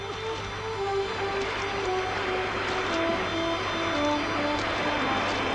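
A rowboat with its sail furled, rowed by two men on the ocean as the trade wind dies, with a constant wash of sea water surrounding it and a few faint splashes now and then, all under a low steady hum.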